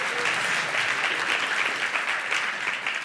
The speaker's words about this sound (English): How many of you can see this light? Okay. Clap if you can see the light.